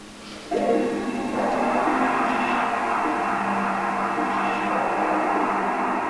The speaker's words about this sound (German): Was muss er jetzt machen? Warten, bis der Ventilator aufhört.